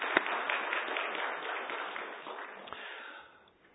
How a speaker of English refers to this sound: So rather than say, give us more, what I want to say is thank you. So let me just give you guys a round of applause.